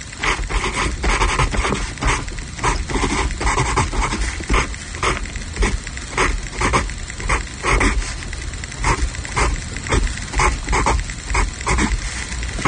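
A pencil scratches across paper as someone writes, in a steady series of short, rasping strokes, each one pitched so the rhythm traces out the Imperial March from Star Wars. No one talks over it.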